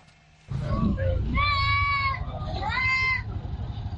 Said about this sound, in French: Nous sommes à Garbal, le marché du bétail de Bobo Dioulasso. Jadis rempli de moutons à l'approche de Tabaski, il présente cette année un visage inhabituel.